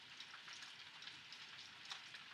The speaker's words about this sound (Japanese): 雨は止んではないけど、さっきよりは弱くなってるね。傘さして帰るのはめんどくさいけど、仕方ないか。